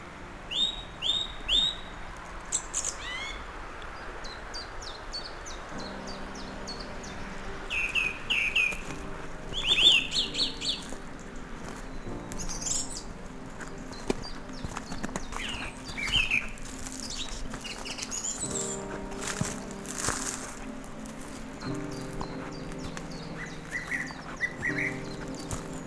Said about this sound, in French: Et personnellement, dès 10 heures du matin à 640 mètres d'altitude, 640 mètres, je n'avais rarement entendu une telle protubérance d'oiseaux.